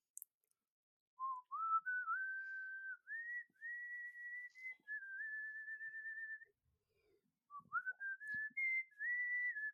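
A person whistles a melodic tune in two phrases of smooth, sustained notes rising and falling in pitch, with a short pause between them. The whistling is fairly quiet, with no other sounds.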